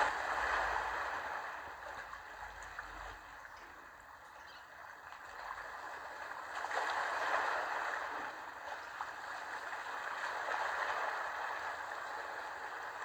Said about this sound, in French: Voilà, tu écoutes le bruit des vagues qui t'apaisent. Comme si le rythme de ton corps, de tes émotions venait se caler sur le rythme des vagues.